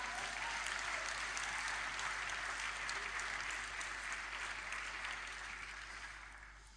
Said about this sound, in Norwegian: Og det var sånne enorme helbredelser. Ja, klapp gjerne for det.